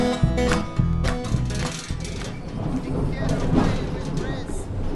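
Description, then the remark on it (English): A steady rumble of a Yarra Trams tram riding along, with a recorded announcement voice near the start saying the next stop, Regent Street, is the last stop, speaking over the vehicle noise. “Next stop is Regent Street. This will be the last stop. Thank you for travelling with Yarra Trams.”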